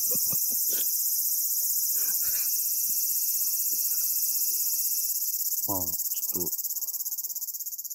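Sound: cicada buzzing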